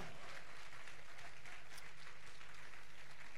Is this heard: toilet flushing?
no